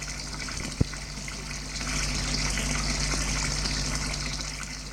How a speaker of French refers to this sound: Ce matin, il peut prendre sa douche à l'eau chaude, très chaude, comme il aime. Sa mère n'est pas là pour lui interdire à cause de la buée. Cela fait du bien, cette eau sur son corps.